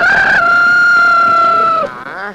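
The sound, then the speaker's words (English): A rooster lets out a single loud, drawn-out call as it is caught by hand, holding it by a foot and a wing. The call holds a steady pitch before breaking into a brief wavering squawk at the end. “I got the rooster.”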